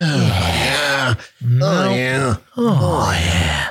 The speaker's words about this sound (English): Just wait till this goes public to everybody. We're going to lose 30 seconds of grunts at the beginning of each episode. Listen, people love it.